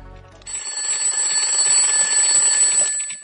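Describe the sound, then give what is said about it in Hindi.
A child's alarm clock going off at 5 o'clock in the morning, a loud, continuous ringing with a bright metallic jangle, starting abruptly about half a second in and sustaining steadily for nearly two and a half seconds before cutting off. “बबलू बेटा उठो, तुम्हारा अलार्म बज रहा है।”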